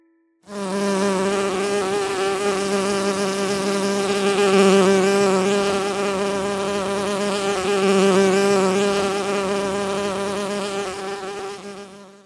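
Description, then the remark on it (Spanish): A bee buzzes steadily for about twelve seconds, its droning hum wavering slightly in pitch and loudness, with no other sounds around it. “El sonido sorpresa de hoy fue el de una abeja.”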